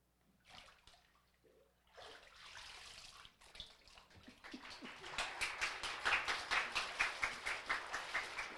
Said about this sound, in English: I baptize you in the name of the Father, the Son, and the Holy Spirit.